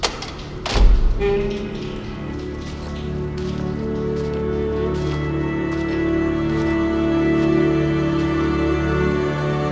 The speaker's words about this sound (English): There's a hiss of repressurization. A cold gust. The door opens.